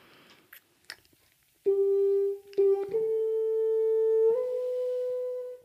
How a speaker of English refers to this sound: So it sounds like this. Ready? I must tell you, I'm putting in a big black practice mute, which is actually not meant for orchestral use, but it turns it into this.